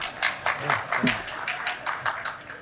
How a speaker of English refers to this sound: You all have the good privilege of not having to listen to me today. Can we clap for that?